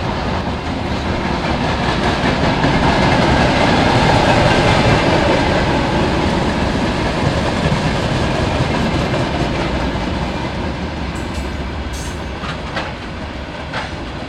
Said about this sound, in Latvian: Vai tas ir tikai tie prečinieki? Prečinieki divreiz nedēļā iet arī pasažieru vilciens.